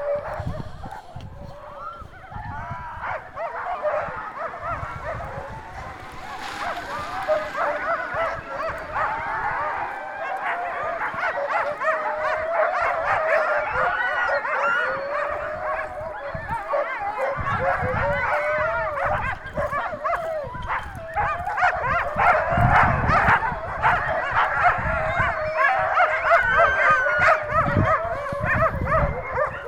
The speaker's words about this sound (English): These dogs are huge white wolfy creatures that smell worse than most things on Earth. Even my youngest sister. They howl almost constantly. God, there's like hundreds of these dogs.